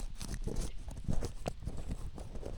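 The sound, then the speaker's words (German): Dry crinkling and rustling of a 50-euro paper banknote being smoothed flat, a steady run of small crackles and soft swipes with no voices. “Nimm diesen Schlüssel und erinnere dich vielleicht an diesen Geldschein. Ich mache den mal wieder gerade.”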